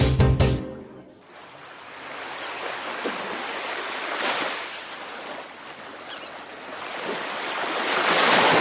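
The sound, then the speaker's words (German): Steady surf rushes onto a beach, with waves swelling and breaking in slow surges. The hiss is broad, following a brief musical tail at the very start. “Na, endlich mal was richtig Schönes. Licht, Strand, Sonne, Meer.”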